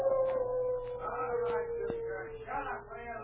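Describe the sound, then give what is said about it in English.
A wolf dog lets out one long, sustained howl that slowly sinks in pitch, carrying steadily through the whole moment over faint background rustling and noise. “The wolf dog howled again.”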